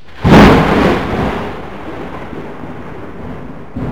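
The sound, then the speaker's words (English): A single loud thunderclap bursts out during a torrential thunderstorm over the city of Richmond, then rolls and rumbles away over a few seconds against a steady hiss of heavy rain, with a fainter rumble stirring near the end. “It was at the exact time of that gathering last Wednesday that the torrential thunderstorms struck the city.”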